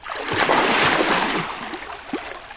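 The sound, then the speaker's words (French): A loud, broad splash of a dive into water, followed by a second or so of churning, sloshing water that gradually fades, with a small splat near the end. “Bruit de tombante, bruit de plongeon.”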